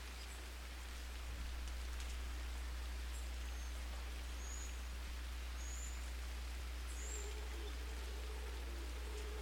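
rain falling at night

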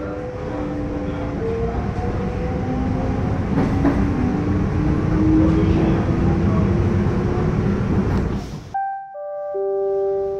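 train

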